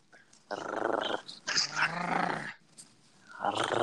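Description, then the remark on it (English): A dog, Tex Ferguson, growls in the background in low, rumbling bursts, two long sustained snarls followed by a shorter one, fairly loud with harsh, gritty texture and brief pauses between. “Is that Tex Ferguson growling in the background?”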